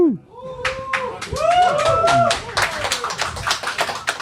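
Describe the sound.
A short burst of scattered applause for a man who has bought a Switch, many quick irregular claps mixed with excited voices whooping and calling out over the clapping.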